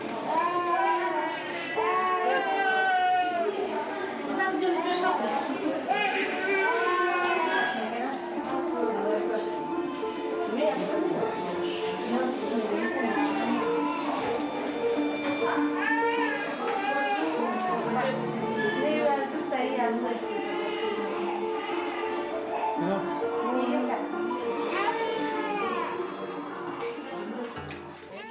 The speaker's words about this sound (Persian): این صدای گریه و ناله های دردآور کودکان شیرخواری است که در شفاخانه ها می پیچد. کودکانی که ماه هاست شیر و غذای کافی نخورده اند.